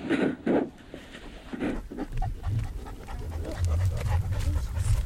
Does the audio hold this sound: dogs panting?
yes